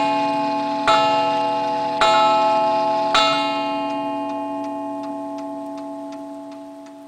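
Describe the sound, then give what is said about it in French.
A pendulum clock standing against the wall of a quiet corner café ticks steadily and softly, marking the seconds, then strikes half past four: three resonant chime strikes, about a second apart, slowly ring out and fade. No one speaks. “La pendule de l'horloge posée contre le mur marque les secondes.”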